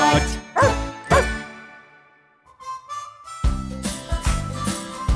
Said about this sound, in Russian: Алтай голос! Алтай мой пес!